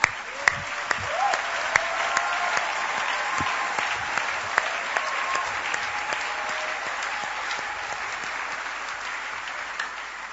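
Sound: applause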